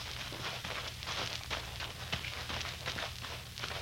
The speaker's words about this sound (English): Easy on those footsteps. Walk along the edge of the grass. Yeah. It's getting darker under the trees so we can close in some more.